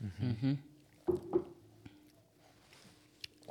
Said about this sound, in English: I mean, that's how you get all the flavor, right? It is. Mm-hmm. It is. That's the Wisconsin slurp.